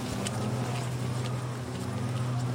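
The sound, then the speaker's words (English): A steady, droning hum of leaf blowers in the distance, heard while walking through a residential area near Ladywell Fields along the Ravensbourne River, a low engine whine with layered tones that holds at an even level throughout, with faint scattered rustling over it. “Oh, sounds like leaf blowers.”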